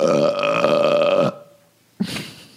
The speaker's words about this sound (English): I mean, I really feel like it's overkill today. It's too many burps.